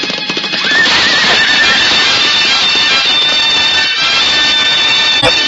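Loud, shrill horse whinnies ring out over a dense, roaring rush of hooves pounding turf and commotion as two jousting knights with couched lances charge and clash on a field; continuous for several seconds.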